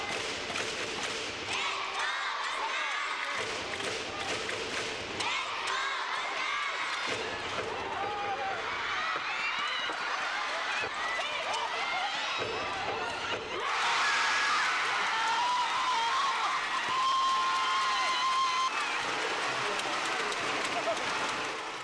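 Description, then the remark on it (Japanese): A basketball arena crowd buzzes over thuds of play in the last 14 seconds of a game, then erupts into a sustained, louder roar as a steady buzzer-like tone sounds, after a go-ahead jump shot with 0.3 seconds left completes a comeback from up to 23 points behind. “バスケットでは安全圏とも言われる20点以上、最大23点差から最後は 0.3 秒での大大大逆転勝利に会場は割れんばかりの歓声が起こりました。”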